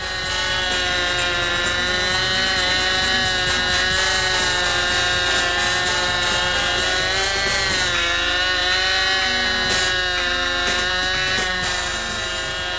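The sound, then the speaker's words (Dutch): A control-line model aircraft engine, flown at the Dutch selection contests for the world championships in Utrecht, Netherlands, screams continuously at a high, buzzing pitch, its tone wavering and dipping slightly as the plane circles, loud and steady throughout with no voices. “In Utrecht zijn de Nederlandse selectiewedstrijden gehouden voor de wereldkampioenschappen lijnbestuurde modelvliegtuigen”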